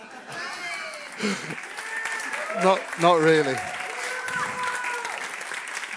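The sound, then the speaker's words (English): Steady applause from a sizable audience, a dense, continuous patter of clapping, while a man's voice speaks briefly over it. “In fact, if you saw my notes, you'd see I've written in here now, pause for applause.”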